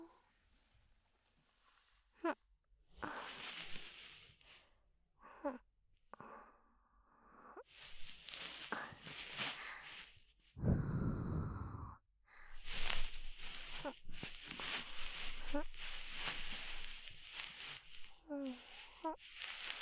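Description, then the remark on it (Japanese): ASMR ear cleaning finish, removing fine earwax: soft, fluffy rustling of a bonten mixed with long, airy breaths and exhales, arriving in uneven bursts with brief pauses, including one deeper blown puff midway. “お耳の仕上げ、梵天糖と吐息で細かい耳垢を取っていきますからね。”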